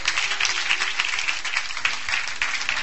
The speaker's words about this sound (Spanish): Dele ese aplauso a la gloria de Dios.